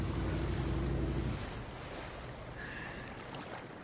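A boat moves across the open water of a freshwater lake with a steady low rumble and rushing wash, wind buffeting the microphone; the heavy rumble drops away after the first second, leaving softer lapping and wind.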